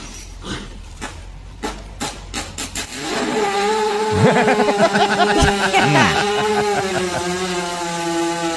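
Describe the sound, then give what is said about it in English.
A few scattered knocks and rustles, then a cow, laid down while someone pushes on its stomach, lets out a long, loud, rasping fart, a buzzy drone with wobbling pitch that carries on for several seconds without any talking. “They usually lay them down and somebody pushes on their stomach. And this is what it sounds like.”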